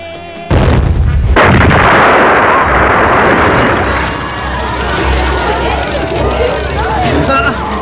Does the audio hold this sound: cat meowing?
no